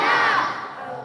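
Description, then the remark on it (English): A group of children shouts "Hosanna!" together in unison during a worship song, a loud burst of many voices that rises sharply and then tapers off as the crowd's yell fades within about a second. “Everybody shouts, Hosanna!”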